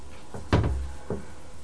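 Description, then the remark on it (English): A child kicks a door, giving three dull, booming thuds with the second much louder than the others, and a brief quiet gap before the last one. “Kicking the door. No, kicking the door.”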